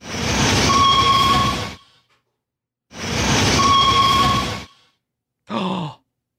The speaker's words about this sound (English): Big Thunder Mountain Railroad.